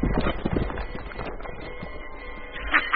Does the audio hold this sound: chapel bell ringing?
no